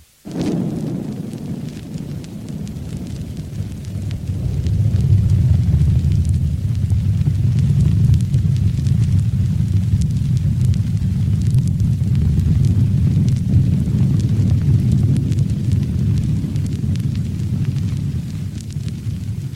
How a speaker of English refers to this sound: Well, you might have recognized the sound of a volcano, but did you recognize that of a whistling gecko?